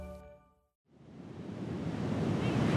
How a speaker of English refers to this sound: Do you hear that roar? It is the Pacific Ocean. I'm at Ocean Beach in San Francisco, and I am surrounded by, well, a whole lot of sand.